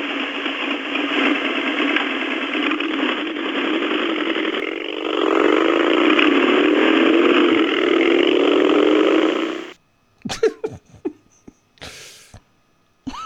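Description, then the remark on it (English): A motorcycle engine roars steadily, then revs higher and louder with rising pitch for several seconds before cutting off abruptly as it rides away; brief voices follow. “Revs and rides away.”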